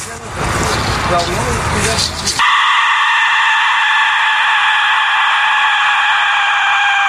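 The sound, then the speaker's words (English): A rebuilt Aztec death whistle shrieks loud: a harsh, breathy scream-like rush for about two seconds, then a piercing, steady wail held to the end, with no talking. “This is the dead whistle.”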